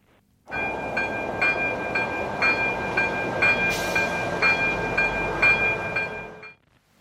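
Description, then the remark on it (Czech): A railway level crossing alarm rings in steady, evenly spaced pulses over a continuous electronic tone, with a rumbling wash of noise beneath, lasting several seconds without any voices. “Vlak to nebyl, byl to železniční přejezd.”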